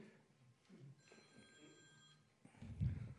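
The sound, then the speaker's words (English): A mobile phone rings during a municipal meeting with a steady electronic tone lasting about a second over a low background murmur, followed by a louder low thump or shuffle near the end. “turn your phone off.”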